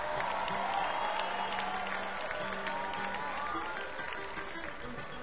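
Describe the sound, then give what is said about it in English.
An audience at a music show applauds steadily for the opening acts, many hands clapping in a dense, continuous wash with a few cheers mixed in, holding fairly loud before easing slightly toward the end. “I'd like to give a big round of applause to … and … for opening up the show”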